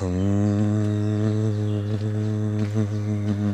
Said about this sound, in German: Dann noch ein drittes Mal tief ein und beim Ausatmen summen und in der Vibration des Summens den Körper noch mehr entspannen. Bisschen leiser.